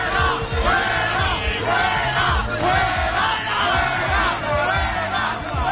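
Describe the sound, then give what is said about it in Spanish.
Part of the audience at the Noche de los Teatros in Madrid boos and jeers the regional president loudly without pause, the massed voices swelling and falling in repeated waves, with no single speaker standing out. “Sí, abucheos como este.”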